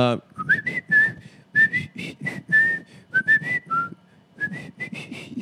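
Someone whistles a bouncy melody, the clear pitched notes sliding and hopping in short phrases, with breathy rhythmic bursts and pauses between them.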